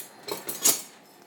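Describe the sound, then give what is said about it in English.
A spatula scrapes and clinks against a pan in three quick metallic taps, bright and moderately loud, as a quesadilla is flipped, with no talking. “Maybe I'm not, because I've got to flip this quesadilla. With, like, an actual flipping instrument, not a fork.”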